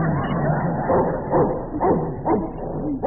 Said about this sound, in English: What a vicious pooch. How do you like my new dog?